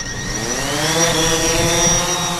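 A drone's rotors whir steadily and loudly at close range, a high buzzing whine with a faint upward lift in pitch as it takes off, with no voices.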